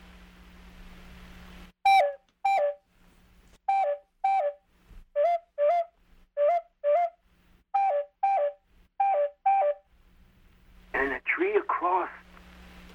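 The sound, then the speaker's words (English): A red and black bird in a tree sings clear, whistled notes in quick pairs, each pair repeated about six times at a steady rhythm over a low hum, followed by a short, busier burst of sound. “And in a tree, right in front of us, there was a red and black bird. And it sang its song like this.”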